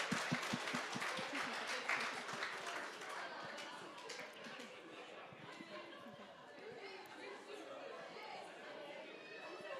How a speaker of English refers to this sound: On l'applaudit, tout le monde. Come on, let's applaud him.